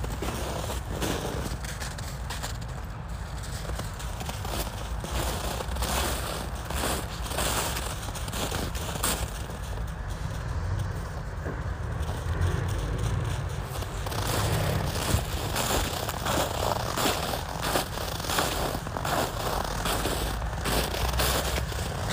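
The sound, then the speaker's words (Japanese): Steady crunching footsteps of one person walking home with a dog named Toichiro, a continuous gritty patter of steps with crackly texture throughout, moderately loud, no talking. “犬の足音と私の足音なんですが、トイチロくんどんどん向こう行っちゃったんで音が取れないと思います。”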